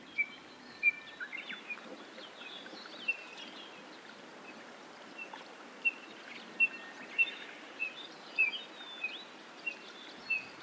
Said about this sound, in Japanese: カッコウやウグイスのさえずりが聞こえてくる中でのコチドリの鳴き声は、小鳥たちの声に溶け込んでいました。高原での思わぬコチドリとの出会いはとても新鮮でした。